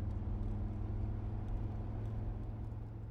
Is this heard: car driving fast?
yes